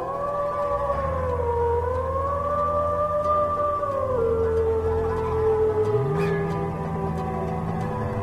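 Wolves howling in long, drawn-out wails, several voices overlapping as the pitch slowly rises and falls, steady and fairly loud throughout with a low rumble underneath and no talking.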